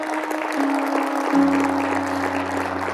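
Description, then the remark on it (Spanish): An audience applauds steadily for a few seconds, a dense, continuous clatter of many hands, over sustained low musical tones, with a deeper note entering partway through. “Ven, damos un aplauso a Dios por su vida.”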